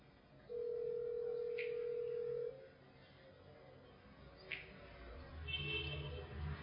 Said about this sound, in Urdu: اچھا یہ پھر فون سننا پڑے گا ابھی.